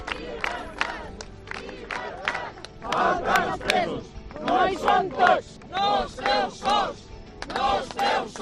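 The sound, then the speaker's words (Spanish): A small street demonstration chants slogans such as 'No son todos, faltan dos presos' in loud, rhythmic bursts, many voices shouting together in repeated phrases with brief pauses between, energetic. “Una vez se han ido, se ha formado una pequeña manifestación.”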